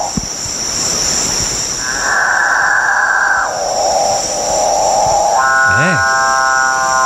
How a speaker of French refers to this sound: Je vais vous faire entendre un extrait de cet oiseau-là, okay. le capucin, qui fait son cri nuptial. On écoute.